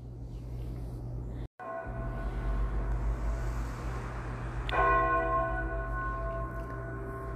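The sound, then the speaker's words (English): A church vesper bell, tolled by the clerk, rings twice, each deep stroke ringing out with a long, humming decay; the second strike is louder, and a steady low rumble, like traffic, runs underneath. “Towards evening, when the clerk entered the church to toll the vesper bell, he saw by the altar”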